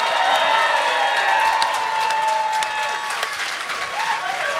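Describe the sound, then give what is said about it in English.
An audience breaks into sustained applause, dense clapping steady and loud throughout, with a few faint whoops and cheers mixed in. “We'll get a round of applause.”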